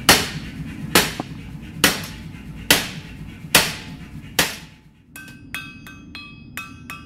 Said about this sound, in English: Once it glows, he picks up a hammer and starts to shape it by hand.